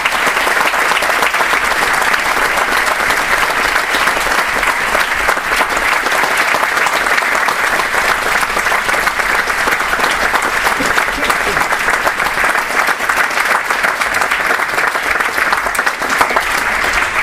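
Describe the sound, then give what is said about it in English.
Loud, sustained applause from a large audience in Berlin fills the whole stretch, a dense steady patter of many hands clapping without letup. “We're going to give you a big round of applause.”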